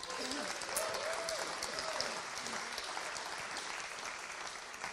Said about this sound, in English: Dad, round of applause for my dad.